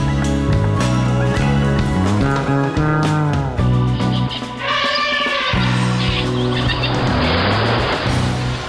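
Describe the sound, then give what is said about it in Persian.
Loud car engines roar and rev continuously, their pitch rising and falling, with bursts of screeching tires as the vehicles race and skid on the dried-up bed of the Hamoun wetland in the Sistan region of Iran. No one speaks. “در 18 سال گذشته بستر خشکیده این تالاب به کانون ریزگردها و محل تاخت و تاز برخی خودروها و چرای دام‌ها تبدیل شده است.”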